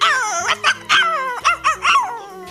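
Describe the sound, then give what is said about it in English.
A dog barks in a quick run of about six high, whiny yips and yelps, some drawn out and wavering, with no one talking. “Look, there's the dog!”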